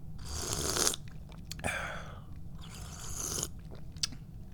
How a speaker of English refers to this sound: so I'm going to drink some tea.